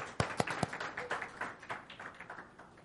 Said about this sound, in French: Donc, bonne fête des mères à chacune des mamans. Est-ce qu'on peut les applaudir chaleureusement?